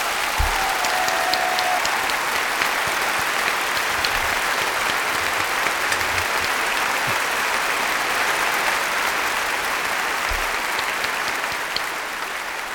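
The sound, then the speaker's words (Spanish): A large audience applauds Francisco Camps, former president of the Generalitat Valenciana, steadily for the whole stretch, a dense, even wash of clapping that holds its loudness throughout and eases off only slightly at the very end. “Francisco Camps, un aplauso para él.”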